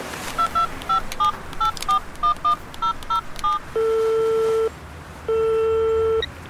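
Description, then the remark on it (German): A woman dials a number on her mobile phone while walking back to her car: a rapid run of about a dozen short keypad tones, followed by two long, steady ringback tones with a pause between them, clear. “Auf dem Weg zog sie ihr Handy und wählte eine Nummer.”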